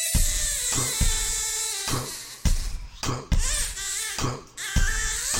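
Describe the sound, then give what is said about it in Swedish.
A newborn baby cries in loud, high-pitched wails, broken into about half a dozen short bursts with quick gasping pauses between them, and no one talking. “Av barnet som det skriker.”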